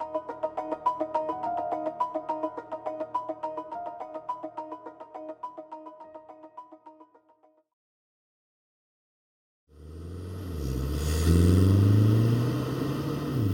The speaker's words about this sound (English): Soundtrack to motoring used to be created by the vroom of the petrol engine and the blaring car radio as you were driving down the road.